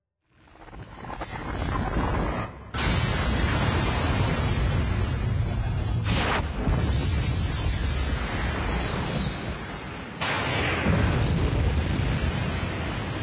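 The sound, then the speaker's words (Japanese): A deep, rumbling underground explosion that destroys a power reactor roars continuously for several seconds, with sudden bursts of crackling debris around the 3, 6 and 10 second marks, heavy and muffled as if from below ground. “地下で謎の爆発が起き、動力炉が停止、いや破壊されました。”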